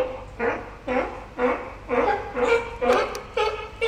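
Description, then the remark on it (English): An animal related to ducks and geese gives a rapid run of about eight harsh, barking alarm calls, evenly spaced roughly twice a second, fairly loud, with no one talking. “It's the alarm call, yeah? The bark.”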